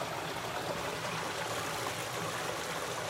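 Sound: stream water flowing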